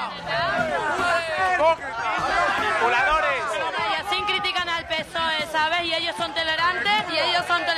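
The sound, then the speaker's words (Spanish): A crowd of about 200 people gathered in Génova street in Madrid yells and chants political slogans loudly and continuously, many overlapping voices with raised, strained shouts rising and falling over a steady roar of babble. “Y ahora estáis escuchando algunas de las consignas.”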